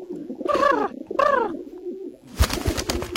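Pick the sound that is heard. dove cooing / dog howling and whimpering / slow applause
dove cooing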